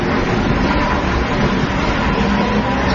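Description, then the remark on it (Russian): A car drives steadily along a road under mild autumn sunshine, with the Katun river gleaming, its engine and tyre rumble forming a loud, unbroken wash of noise with no voices and no change in pace. “Бежит машина.”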